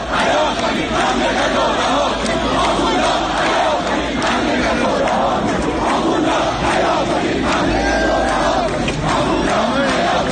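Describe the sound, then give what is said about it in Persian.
A large crowd of protesters in Rasht, Iran, shouts slogans in unison, a dense, loud roar of many voices rising and falling in rhythmic chants that continue steadily throughout without pause. “در رشت نیز تظاهرکنندگان شعارهایی را فریاد زدند.”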